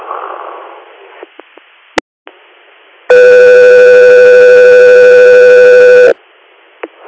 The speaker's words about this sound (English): Calgary Air, stand by for tones.